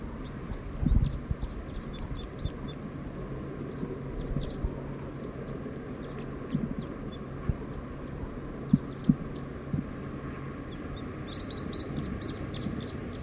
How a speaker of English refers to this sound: Song of a wild bird. Very soft.